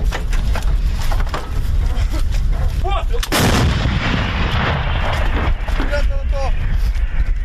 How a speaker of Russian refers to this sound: Гармата М777 калібру 155 мм, в народі три топора, три сокири. Так от ця гармата, як і кажуть військові Збройні сили України, зрештою це підтверджують і західні партнери, переламала хід війни.